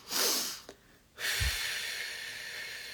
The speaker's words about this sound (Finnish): Eli hengitetään niin kuin nopeasti keuhkot täyteen, sitten vielä vedetään pieni nokkasun ilmaa ja sitten, että keuhkorakkolat aukeaa ja sitten puhaltaa pitkään ulos.